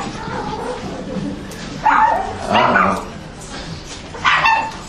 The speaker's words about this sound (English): Oh, there's another dog. That's fine.